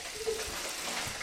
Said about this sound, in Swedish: Köttfärsen steker. Det kanske är lite starkt.